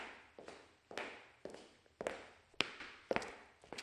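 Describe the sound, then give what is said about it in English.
Steady footsteps walk along at an even pace, then a few sharper, brighter knocks on a door ring out. No one speaks. “I hear someone walking. Someone is knocking, knocking on a door.”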